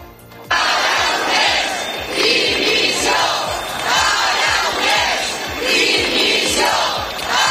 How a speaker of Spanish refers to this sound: Gritos de dimisión, dimisión dirigidos contra Pere Aragonès en Gerona llegaron a quemar incluso un muñeco con su figura.